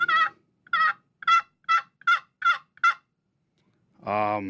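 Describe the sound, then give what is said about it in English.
A basic turkey hen yelp played on a turkey call: seven crisp, raspy notes in an even, steady rhythm, clear, then a short lower, fuller sound right at the end. “So a basic yelp is anywhere from 3 to 5 cadence.”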